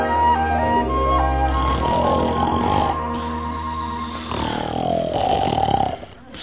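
Loud, drawn-out snoring of a person in bed, voiced by a man imitating it, with rasping breaths that rise and fall over several seconds, continuous before easing off at the end.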